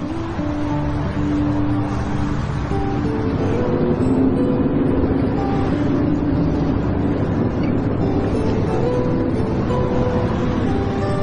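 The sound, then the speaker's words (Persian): Inside a moving bus: a steady, low engine drone and road rumble hold constant throughout, with faint hums and rattles layered on top and no voices. “طفلکی انقدر خسته است که رو صندلی اتوبوس خوابش برده.”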